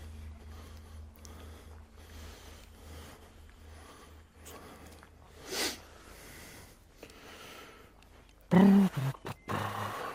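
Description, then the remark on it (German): Heavy, labored panting with snorting breaths: a soft rasping exhale midway, then a cluster of loud, forceful snorts and grunting huffs near the end over a low background hum. “Für was? Für das Schnaufen.”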